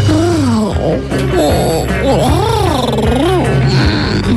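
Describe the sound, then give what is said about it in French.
A person imitates a cat purring, a continuous vocal rumble with slow rising and falling swoops in pitch, carried over a steady low hum for a few seconds. “Miaou. Miaou.”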